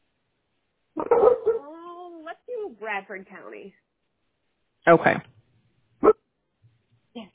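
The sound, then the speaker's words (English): A person talks briefly, then a dog gives two or three sharp, fairly loud barks spaced a second or so apart, with a quieter yip trailing at the end. “In the background. Yeah, I know. I have a dog too.”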